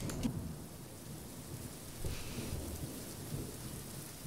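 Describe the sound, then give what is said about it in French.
Steady rain falls throughout, a dense hiss with low rumbling underneath like thunder, a few brief louder swells breaking the continuous wash of sound. No one speaks. “Oui, voilà, parce que je me suis dit qu'il pleut.”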